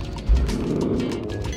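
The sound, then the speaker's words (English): A video game mortar strike destroying a group of enemies: one deep, heavy boom that swells into a sustained low rumble, lasting over a second with no talking. “That was the sound of a mortar doing the same.”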